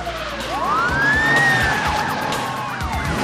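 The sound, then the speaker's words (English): Several police sirens wail at once, their rising and falling tones overlapping as a large convoy of police cars with lights flashing speeds past toward a motel, engine rumble beneath, loud. “A large convoy of police cars, lights flashing, speed towards the motel.”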